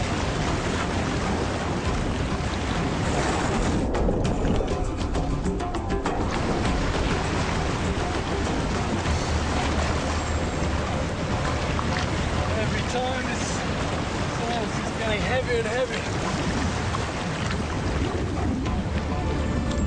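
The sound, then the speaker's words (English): Loud, constant wind buffets the microphone while rough water churns and splashes against a small boat in rougher seas, strengthening wind and starting rain, a dense roar with no letup; faint voices are partly buried beneath it. “In the rougher seas and strengthening winds, it's proving far harder to stay upright.”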